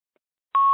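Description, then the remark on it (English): A sudden, steady electronic beep at a single pitch from a phone starts after a moment of silence and holds loud and clear, with no voices present. “Coming off of my phone now.”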